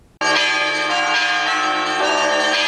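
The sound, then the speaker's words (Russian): Church bells of the Resurrection of Christ military cathedral in the stanitsa of Starocherkasskaya, Russia, ring out loud before the Christmas Eve divine liturgy, calling Orthodox faithful to prayer: a dense clanging peal with sustained overlapping tones that starts abruptly and carries on without pause. “Колокольный звон перед началом божественной литургии зывает православных на молитву.”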